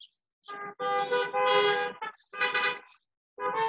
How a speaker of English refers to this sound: I don't know if I can ask for a raise of hands. Who can testify that their families have drawn closer in this time? And by raising of hands, I mean honk your horn.